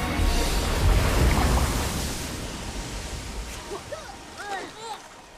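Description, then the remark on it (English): A loud wash of ocean water and splashing surges at first as people in inflated suits, having swum out of a submarine, break the surface and bob in the water; it then eases into a softer sloshing, with faint, indistinct vocal sounds rising over it near the end. “They break the surface and bob in the water.”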